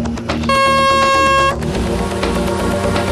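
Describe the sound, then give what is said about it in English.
A loud, harsh klaxon blares once for about a second as a starting signal, a steady buzzing horn tone, followed by a rapid clatter of gunfire as the boat boys fire their magazines at a target, with mechanical noise. “Okay, boat boys, charge your magazines and fire on the sound of the klaxon.”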